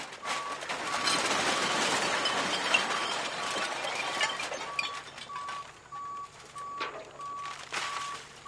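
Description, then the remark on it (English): A truckload of recycling is dumped out for visual inspection at the county Materials Recycling Facility southeast of Orlando, crashing and clattering in a dense, rushing roar that thins to scattered rattles and clinks, while a steady backup alarm beeps in a repeating rhythm throughout. “It's to the southeast of Orlando, and it's where the county trash is piled onto a vast landfill, and it's here that trucks deliver loads of recycling to the MRF, that's the Materials Recycling Facility. It all gets dumped out for a visual inspection.”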